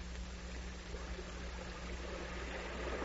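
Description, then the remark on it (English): A steady, unbroken roar of floodwater from the great flood of 1867 rushing through orchards and tearing out trees, a dense churning wash with a low rumble beneath it and no voices. “Water rushing through them, tearing out the trees, carrying away the fertile land.”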